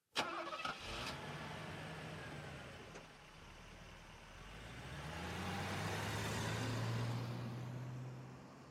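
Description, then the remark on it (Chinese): A car engine cranks and catches with a brief sputtering burst, then settles into a steady idle before revving up to a louder, deeper hum. No one speaks. “阿生你快开车吧”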